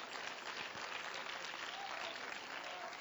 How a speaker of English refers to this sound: Come on, clap your hands and let's give praise to the Lord.